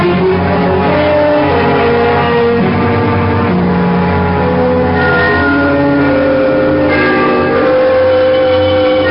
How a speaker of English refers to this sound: The bells of Trinity had just rung the 3/4 hour. They are at the lower extremity of the city, but I always like to listen for them. It was 1/4 to midnight.